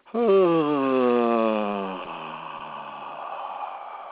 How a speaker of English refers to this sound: So let's just go ahead, despite all of my little meanderings right there, let's just go ahead and take a breath in and just make a yawn and let the sound come out.